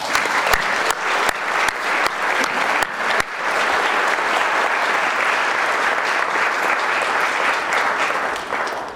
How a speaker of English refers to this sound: So if you are becoming a member this morning, would you just all like to come up to the front? We're going to do this all together. So if you would like to come forward now. And we'll give all of you a round of applause as you're coming up.